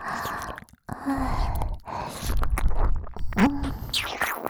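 Intimate ASMR ear-licking mouth sounds, with both ears licked at once: soft wet smacks, slurps and clicks mixed with breathy exhales, continuing steadily for several seconds after a brief pause, with no talking.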